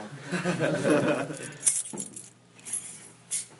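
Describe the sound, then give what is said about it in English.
Mashkiach keys jangle in a burst of bright metallic clinks, then a few lighter jingles follow as they are passed along. Faint voices murmur in the background. “So sorry, for does anyone here have mashkiach keys?”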